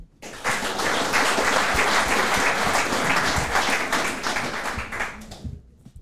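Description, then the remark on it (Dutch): A burst of audience applause welcoming the first guest, many hands clapping in a dense, steady wash for about five seconds before tapering off quickly, with no voices over it. “Geef een groot applaus voor”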